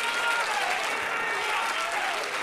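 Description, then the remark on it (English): A crowd of people clapping their hands unto God, a dense, steady wash of applause that stays loud and even throughout, with a faint murmur of voices mixed underneath. “Oh, come on, somebody, and clap your hands unto God.”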